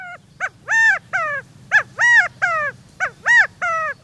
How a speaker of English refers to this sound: If you lived in the arid West, perhaps you were awakened by the insistent inquiries of a California quail.